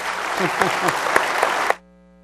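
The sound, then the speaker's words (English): An audience at Grace Church applauds a pastoral staff member for 10 years of service, in a dense, steady wash of clapping with a few voices mixed in, before it cuts off abruptly after under two seconds, leaving only a faint low hum. “And you've already done the applause, so we don't need to do the applause.”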